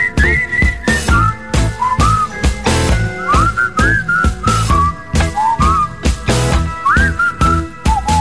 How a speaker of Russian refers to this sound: Вот сейчас бы нам Роман Аркадьевич сказал: не свистите, парни, в эфире. Дурная примета.